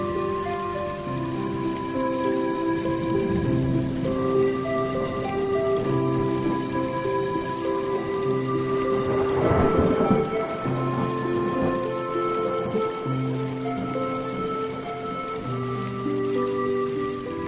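Large raindrops patter down steadily over a constant wash of drops, with a brief heavier burst of splashing near the middle, with no voices.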